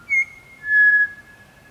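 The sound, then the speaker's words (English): A pied butcherbird sings two clear, pure fluting notes: a brief higher one, then a longer held note slightly lower in pitch, alone against a quiet background. “But pied butcher birds are persistent singers.”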